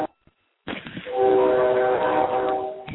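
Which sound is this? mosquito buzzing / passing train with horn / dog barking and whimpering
passing train with horn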